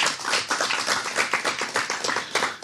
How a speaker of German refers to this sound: Zuerst einmal, danke, einen Applaus. Merci vielmals.